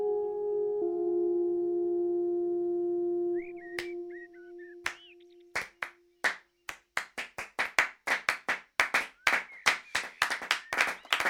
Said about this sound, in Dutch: Een aarzelend applaus.